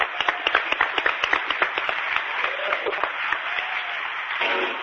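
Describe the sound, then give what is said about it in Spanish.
A burst of applause, many hands clapping in a dense, irregular patter at a steady moderate loudness, continuing for several seconds without any voices. “Le mando un aplauso para ti y para tu madre, hombre.”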